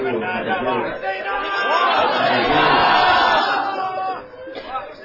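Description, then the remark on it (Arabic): A crowd wails and cries out in mourning, many voices overlapping in loud, sustained lamenting that swells toward the middle, then briefly drops before rising again. “هذه الصرخات والندبات تذكرك بصرخات وندبات أطفال الحسين عندما اجتمعوا حول جسد الحسين.”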